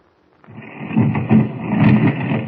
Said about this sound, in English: Now, when I press this buzzer, the stone door will swing open.